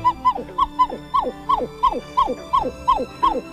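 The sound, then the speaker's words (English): A pied-billed grebe's wail: a steady, rapid series of about eleven loud, hollow notes, each sliding downward in pitch, repeated at an even rhythm with no voices. “It has a couple of vocalizations. This wail.”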